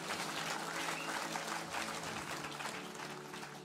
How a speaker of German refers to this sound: Lasst uns Gott nochmal einen riesen Applaus geben.